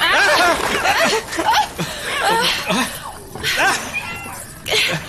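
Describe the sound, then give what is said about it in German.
Several cats yowl and wail in loud, overlapping, rising and falling cries, with a brief pause before another shrill burst near the end. “Katzen? Fledermäuse?”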